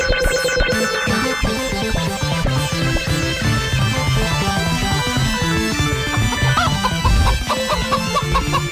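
Busy, loud song with chicken clucks and a rooster-like crow woven through the music, layered over a steady thumping beat and dense instrumentation the whole way through.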